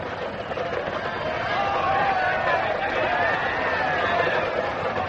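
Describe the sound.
A large, hostile English crowd on the approach to Oxford murmurs in a dense, steady wash of overlapping voices, with higher raised calls and cries for Sir Walter rising out of the babble now and then; the noise stays loud and constant throughout.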